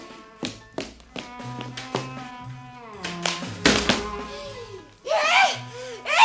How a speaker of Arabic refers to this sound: ايه انا ضربته بالجريده على راسه ونزل على الارض سايح في دم ومسرق.